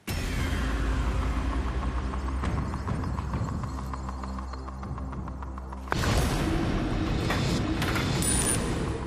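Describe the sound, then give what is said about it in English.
A counter loaded into drop zone 2 clatters down through an arcade pusher machine, giving a run of quick rhythmic clicks over a steady low mechanical hum, then a brighter rattling burst toward the end. “Before we do that, though, you've got another counter to put into the machine.”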